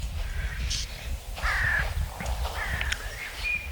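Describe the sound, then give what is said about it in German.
Several birds call outdoors on a cold, frosty early morning before sunrise, including harsh crow-like caws and brief tonal chirps, spread across a few seconds over a steady low rumble of background noise, with no voices present. “Alle Vögel sind natürlich schon wach, logisch.”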